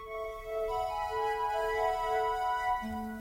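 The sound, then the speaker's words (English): A short radio station identification jingle: sustained electronic tones stacked into a steady chord, with a lower note entering near the end. Played alone at moderate volume, with no voices. “Right, time now for our station ID.”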